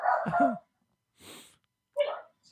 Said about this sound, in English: Oh, it's my dog. Your dog.